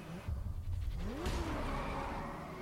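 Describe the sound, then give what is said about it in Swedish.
Car engines in the racing game Need for Speed roar and rise in pitch as they accelerate, with a broad whoosh and rising harmonic sweeps midway, steady and loud throughout, no voices. “Ah, så snabba bilar. Snabba bilar, då är det Need for speed.”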